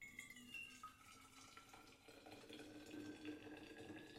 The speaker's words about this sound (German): So, jetzt habe ich das Wasser nochmal aufgekocht und gieße das ein, einmal in die Flask.